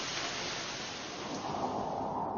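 Steady rain pours down in a dense, even hiss that holds at a constant level throughout, with no voices and no distinct thunderclap standing out.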